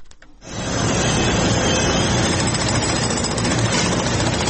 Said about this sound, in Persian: تقریبا 5 شبانه روز است که صدای ماشین‌آلات و ابزار نیروهای امدادرسان در شمال سوریه و جنوب ترکیه قطع نمی شود.